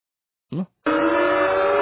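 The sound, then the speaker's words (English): An alarm sound effect that pops up on screen in a video: a brief chirping blip, a short pause, then a loud, steady, buzzy blaring tone that holds unbroken to the end. No voices. “And there's a big, you know, just to let you know, whenever that, you know, that alarm sound pops up, that... on the screen, for those who are listening on the iTunes, it's just, that's white supremacy.”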